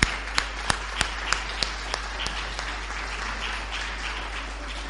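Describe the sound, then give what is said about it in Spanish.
An audience applauds steadily at a Cartagena shop awards ceremony as the second prize trophy is presented to the florist Floristería Alameda, a dense wash of many hands clapping with a few sharper claps standing out at the start, then settling into an even, sustained patter. “¡Un aplauso!”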